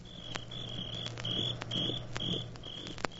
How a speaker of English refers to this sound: The sound of crickets. Crickets always indicate a summer evening on somebody's porch. Listen.